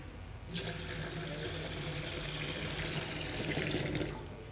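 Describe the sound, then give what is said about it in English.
Warm water pours steadily into a basin, a bright splashing rush that starts abruptly and runs for about four seconds before tapering, with faint background noise and no talking. “Right, so we're going to pour this water. It is warm.”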